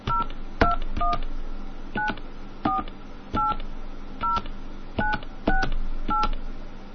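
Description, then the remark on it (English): A series of short two-toned telephone keypad beeps as a PIN is entered for an MCI phone calling service, about a dozen presses in an uneven rhythm, clear, with a faint background hiss and no talking. “Please enter your PIN now.”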